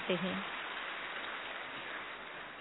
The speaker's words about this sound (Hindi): जिनका हम तालियों के साथ स्वागत करते हैं।